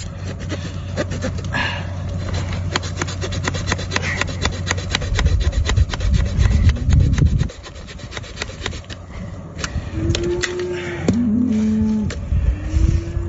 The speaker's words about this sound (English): He's actually sawing the horns apart. He's actually sawing the horns apart so this deer can be free.